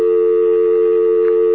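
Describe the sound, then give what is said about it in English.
A steady, unbroken telephone dial tone hums at an even level for the whole moment, clear as if heard through a phone line, with no voices. “Okay, we've got a dial tone now.”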